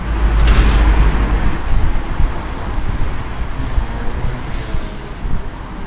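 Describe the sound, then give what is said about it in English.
A steady, loud roar of busy six-lane north-south road traffic on the Nusle Bridge in Prague, with deep engine rumble and gusts of wind buffeting the microphone, continuous throughout with no voices. “Completed and opened in 1973, the bridge serves as a major artery for 6 lanes of north-south traffic, and even the city's metro.”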